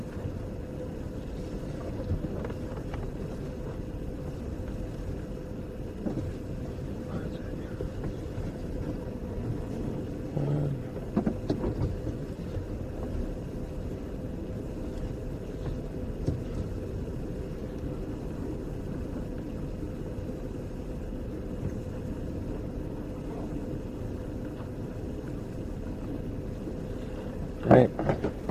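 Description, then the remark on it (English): A car engine hums low and steady as the vehicle creeps slowly along while maneuvering into a parking spot, with faint voices now and then and a brief clatter right at the end. “Car doesn't have to move for a week.”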